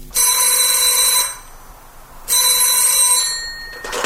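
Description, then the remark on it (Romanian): An old-style telephone bell rings loudly in two long, rattling bursts separated by a short pause, bright, with no voices. “Într-o seară mi-a telefonat Michel.”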